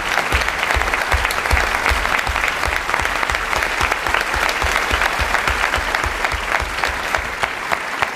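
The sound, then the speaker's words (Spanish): Sustained applause from an audience after a performance of a play, a dense steady clatter of many hands clapping loudly and continuously throughout, with no voices standing out. “Gracias a todos por este aplauso para Paco, para Iván, para Borja, para Carlota.”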